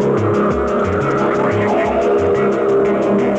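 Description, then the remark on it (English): A car engine roars loudly and steadily as car experts drive the vehicle hard during road testing, with hints of tire squeal, all blended into a dense, continuous wash of sound with no talking. “The experts drive the cars through 500 miles of tough, critical road testing.”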